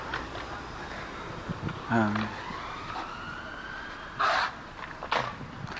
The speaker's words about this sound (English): I'm trying to think of the similarities. In the cities. Well, maybe similarities all over the world. Certainly, there are sirens everywhere.